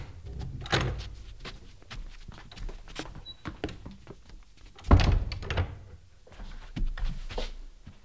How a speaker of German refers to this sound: Na, du kommt herein und macht die Tür hinter euch zu.